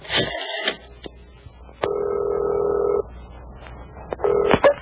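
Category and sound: signal or alarm, telephone dialing tones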